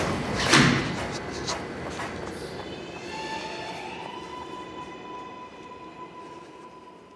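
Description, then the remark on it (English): A train rumbles in steadily with a sharp clunk near the start, then a high metallic squeal rises as it slows, like a carriage pulling in with doors sliding. No voices. “I got off the train and was running.”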